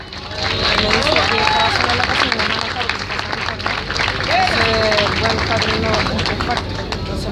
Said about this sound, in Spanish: Con mucho orgullo y con las felicitaciones de todos ustedes, y ojalá el aplauso de todos ustedes, viene a comentar su show don Sergio Freire.